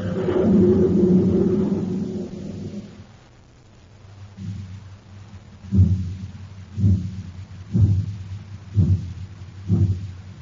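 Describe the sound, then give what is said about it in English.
The Terra City Express train struggles to build speed on ordinary fuel: a heavy, low rumble gives way to slow, evenly spaced chugging bursts, about one per second, deep and pulsing with no voices. “That's the Terra City Express train. It's trying to get up speed on ordinary fuel.”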